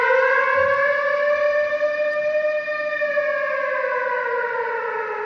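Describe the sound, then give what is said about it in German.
A loud air raid siren wails steadily, its rich harmonic tone holding high and slowly sagging in pitch, sustained throughout with no voices. “vor allem die Älteren und Ältesten im Publikum, lässt womöglich jenseits aller dokumentarischen Erzählung von Schrecken und Schmerz, Gewalt und Tod vor allem diese Sirene erschauern.”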